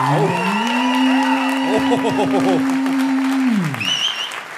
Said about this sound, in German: Jetzt brauchen wir nämlich euren Applaus für die zerknitterte Karte